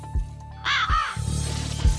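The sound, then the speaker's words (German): The short jingle of Rabe Info, the background news magazine on Radio Bern, built around a raven's harsh caws, two rasping calls rising in a bright arc, over a steady low musical hum with soft rhythmic thumps. “Rabe Info.”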